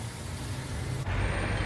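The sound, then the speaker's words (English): A big rig truck rumbles, its deep engine drone and broad hiss running steadily, then shifting to a louder, rougher tone partway through. No one speaks. “That is a big rig.”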